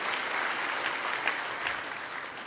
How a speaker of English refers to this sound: I feel like you want to applaud. Just get it out. Let it out. There you go.